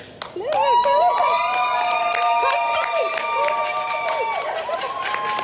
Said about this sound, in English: Crowds cheered as he arrived home from Tokyo after winning two silvers in table tennis.